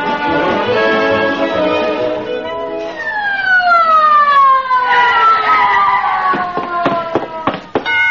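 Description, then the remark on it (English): A loud ambulance siren wails steadily, then winds down in long descending tones, followed by a series of sharp knocks near the end. “Somebody here call for an ambulance?”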